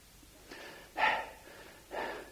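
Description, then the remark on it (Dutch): Heavy, breathless panting after hard running: three rough breaths in quick succession, the middle one loudest, each a harsh airy rush with no speech around them. “Hij hijgt er wat. Van het harde lopen.”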